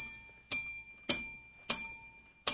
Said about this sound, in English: You remember who gave you that bell? I paid for that bell.